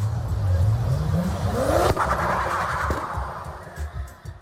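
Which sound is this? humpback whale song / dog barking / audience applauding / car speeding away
car speeding away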